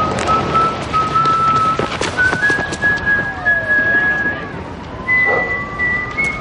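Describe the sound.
Omar Little, a character in The Wire, whistles a slow tune in long, held notes, in three phrases that step up and down in pitch, clear over a steady, noisy outdoor background.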